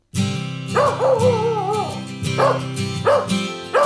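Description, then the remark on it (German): A young female shepherd-mix puppy from Romania barks and yips repeatedly, with high-pitched, slightly whiny calls arriving in quick bursts across a few seconds. “Kaya, leuchtend braune Augen, ausdrucksstarkes Gesicht, noch tapsige Welpenschritte, ein Schäferhund-Mix aus Rumänien.”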